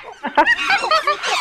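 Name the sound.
monkeys screeching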